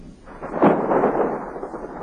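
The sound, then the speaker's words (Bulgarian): A low, rumbling roll of thunder swells in after a quarter second, peaks sharply, then sustains as a broad grumbling wash that lingers without fading out. No voices. “Гръм.”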